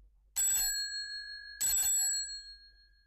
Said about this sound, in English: Then suddenly she ran across the road and rang Holmes's doorbell.